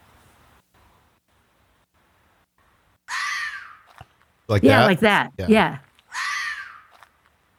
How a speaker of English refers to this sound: then I googled it and I'm like, I think that's what it was, a fox screaming. Fox screaming sounds.